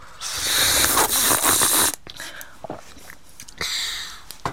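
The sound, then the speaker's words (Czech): Three people slurp a fairly oxidized tea, between oolong and red tea, together: a long, loud, airy slurp lasting about two seconds, followed by a few small sips and clicks, then a shorter hissing slurp near the end. “Tak jdeme na to, všechny tři jdeme srknout.”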